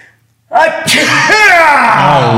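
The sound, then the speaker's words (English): A man's voice loudly imitates a sneeze, a drawn-out breathy 'ah' that bursts into a forceful, prolonged 'choo', after a brief moment of silence. “You want me to fake sneeze?”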